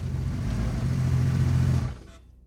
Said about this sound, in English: I rolled up that long walk, dropped the newspaper on the porch, and heard a car pull up behind me.